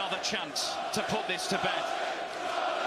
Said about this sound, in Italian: Questo è il tifo che fanno.